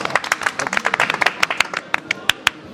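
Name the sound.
audience clapping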